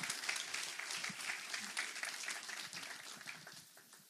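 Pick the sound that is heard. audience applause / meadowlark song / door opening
audience applause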